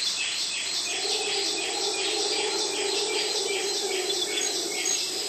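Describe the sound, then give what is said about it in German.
A dense Amazon rainforest bird chorus of many overlapping calls and chirps, repeating in rhythmic bursts over a steady insect hum, with no speech. “Aber so gemischt, abwechselnd, als von Riesenurwaldbaum zu Riesenurwaldbaum hin und her geworfenes Vogelgesamtkonzert, als exotisches Vogelorchester, da haben die Krächzer doch was, oder?”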